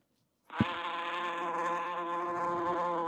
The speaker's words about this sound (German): Aber es hat so gestunken. Immer waren die Fliege da. Eine Fliege, genau. Eine Fliege.